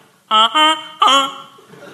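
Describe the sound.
A voice imitates a goose on a train with three loud, nasal honks, strongly harmonic and slightly wavering in pitch, the last one longer and trailing off into quieter breathy noise.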